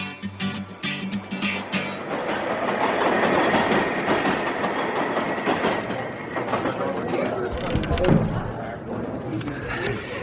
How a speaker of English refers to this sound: Subway home. I missed two stops.